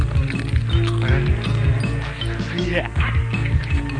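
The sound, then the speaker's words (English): Steady, evenly spaced footsteps on a film's soundtrack tap along, roughly two or three per second, set against a low droning soundtrack with muffled voices in the background. “Hey, man, there's footsteps out there. Is there footsteps? That's on the sound.”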